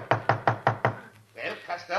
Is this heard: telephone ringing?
no